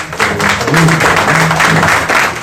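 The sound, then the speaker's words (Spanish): A crowd applauds with steady, dense clapping that fills the whole stretch at a fairly loud level, with a few voices calling out underneath the clapping. “Creo que eso merecería un aplauso a todos los que han escuchado.”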